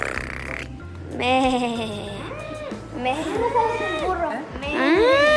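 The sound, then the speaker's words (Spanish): A child's voice makes drawn-out, wavering moos and bellows in imitation of a bull, loud, with a low rumbling hum underneath throughout. “El toro.”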